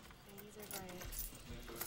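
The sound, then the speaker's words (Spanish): A keychain jangles in bursts of bright metallic clinks, fairly loud, with a voice murmuring faintly underneath, as a tool from the keychain is used to loosen the screws of a dividing window during a prison visit. “Con cuidado, usa una herramienta de su llavero para aflojar los tornillos de la ventanilla divisoria.”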